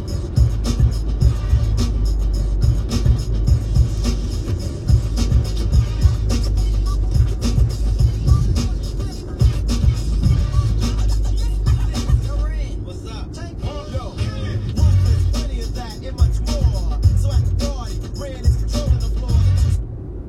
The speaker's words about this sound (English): Traffic